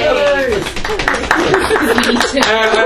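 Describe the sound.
A crowd applauds with steady, dense clapping for about three seconds while voices call out and cheer over it, staying fairly loud throughout.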